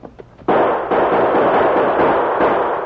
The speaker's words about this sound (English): You'll have to return the gunfire.